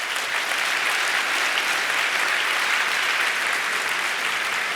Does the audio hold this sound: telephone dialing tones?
no